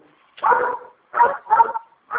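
A dog barks four times in quick, slightly uneven succession, fairly loud, with brief gaps between the sharp woofs and no talking.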